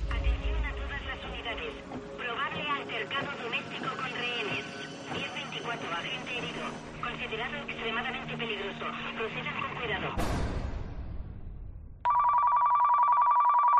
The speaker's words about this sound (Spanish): Suena el teléfono. Todavía no son las 2 de la madrugada.